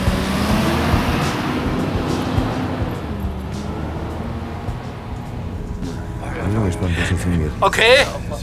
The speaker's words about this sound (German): Anschließend rollte der Bus mit knirschenden Reifen vom Parkplatz.